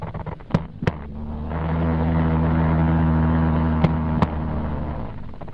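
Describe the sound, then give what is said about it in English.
Jumping spider vibrations recorded on a nylon surface, a pantyhose: a steady, low, harmonic buzz that swells in the middle, broken by four sharp ticks arriving in two pairs, with no voices. “The surface that you heard it vibrating was actually on a nylon surface, actually a pantyhose.”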